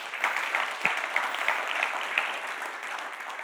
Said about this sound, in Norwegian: Veldig bra at du ville dele litt om givertjeneste. Det er ikke lett å få noen til å gjøre det, så takk for at du stilte opp. Gi en applaus for det.